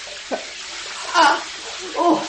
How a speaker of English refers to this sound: Oh, and a cold shower. Well, I'm not going under that.